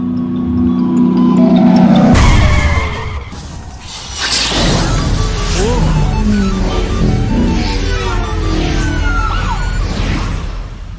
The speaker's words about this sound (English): Ah, here comes the ice cream truck. Catch it.